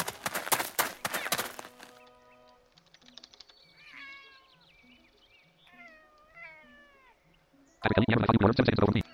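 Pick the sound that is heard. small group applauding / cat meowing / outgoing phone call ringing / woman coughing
cat meowing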